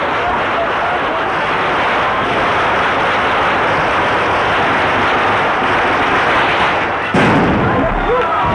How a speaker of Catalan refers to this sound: Doncs Déu-n'hi-do, s'ha sentit perfectament la traca. Sí, encara està sonant, eh? Des dels estudis no sentim evidentment res, però a través de la ràdio se sent perfectament.